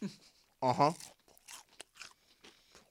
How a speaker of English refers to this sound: Give you a little ASMR. Oh, yes. When you grab that thigh with just the big-ass piece of batter just hanging off the side, it's nothing but skin and crunch. Give him the crunch.